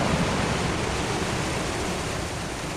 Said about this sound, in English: We're standing on a tributary of the White River, surging with caramel-colored water and debris, the day after a catastrophic rainfall inundated parts of Washington County, Benton County, and Carroll County.